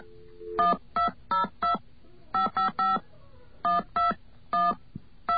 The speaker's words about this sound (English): Okay, let's go. Dial tone.